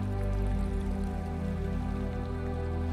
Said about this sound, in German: Und leg deine Aufmerksamkeit auf die Melodie und das Rauschen der Wellen, das Kommen und Gehen.